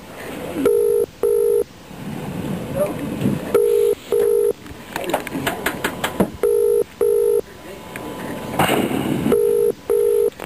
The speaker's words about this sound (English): Oh, hello, sorry. It was ringing so long now, I forgot what I was doing.